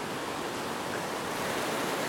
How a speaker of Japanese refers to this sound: 波の音聞いてください。どうですか、波の音聞きながらどんな気分になったでしょうか。